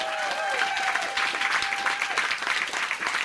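Studio audience applause, a steady dense patter of many hands clapping at an even loudness throughout, with a few faint tonal whistles or cheers rising in the first second.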